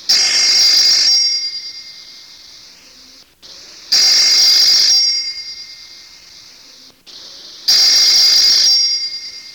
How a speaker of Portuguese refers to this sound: Quando de repente, sem avisar, o telefone toca.